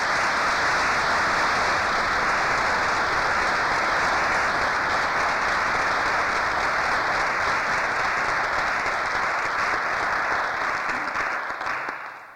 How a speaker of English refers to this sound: I think this deserves a round of applause.